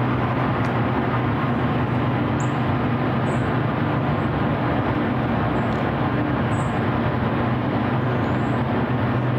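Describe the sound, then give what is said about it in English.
A steady, loud industrial roar of cooling fans at a cryptocurrency data center operated by the San Francisco company Prime Block fills the air without letup, a dense droning rush with a low hum underneath and a few faint high chirps. “That's what people are hearing that live near this cryptocurrency data center.”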